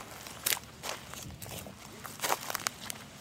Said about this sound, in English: Crossfade with walking sounds, footsteps in a field.